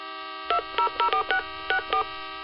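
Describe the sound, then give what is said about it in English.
Seven short, crisp dual-tone beeps from a cell phone keypad, pressed in a quick uneven rhythm with brief pauses between them, clear over a faint background hum; the phone was found on a car's dashboard and is used to call the emergency contact of an injured man. “I only assume he found my cell phone on the dash.”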